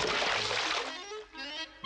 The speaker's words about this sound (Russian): Довольный волк ныряет в воду.